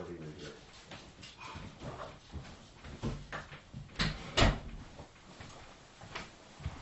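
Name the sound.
dog barking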